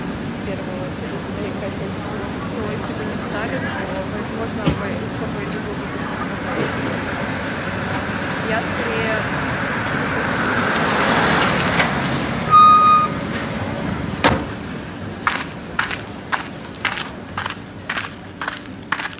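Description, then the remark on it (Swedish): Busy street traffic in Saint Petersburg, Russia, rumbles steadily with passing trucks and buses, a brief rising whine midway, and a series of regular sharp clicks or beeps toward the end. “Hon parkerade bilen och klev ut på den bullriga gatan i Sankt Petersburg i Ryssland.”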